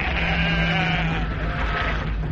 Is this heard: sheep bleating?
yes